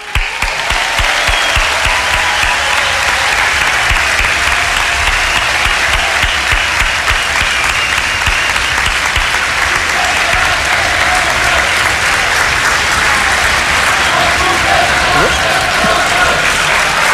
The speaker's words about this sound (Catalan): Gent del públic, ara sí que us demano un gran aplaudiment dedicat al GRAE d'Olot.